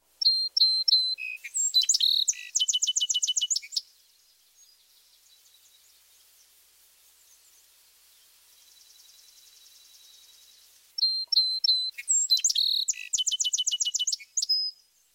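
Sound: song sparrow song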